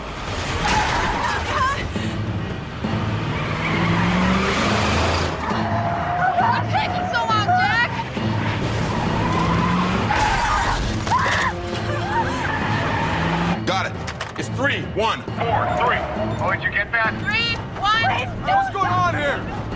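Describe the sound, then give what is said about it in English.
A Jeep backs onto a driveway, revs and skids, then repeatedly slams into another car in several heavy, crunching impacts, with loud engine roar throughout and frantic voices talking over the chaos. “The terrorist backs onto a driveway. He's gonna ram us! And repeatedly smashes into them.”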